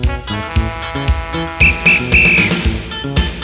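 Over steady background music, a whistle is blown in a ti-ti-ta rhythm as the signal for people moving around the room to stand still: two short shrill blasts quickly followed by a longer one, loud.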